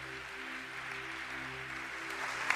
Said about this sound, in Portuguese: Quer aplaudir? Aplaude aquele que é santo.